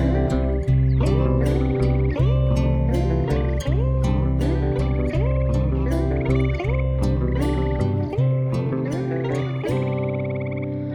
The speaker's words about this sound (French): Et le wawaron grogne et leur répond.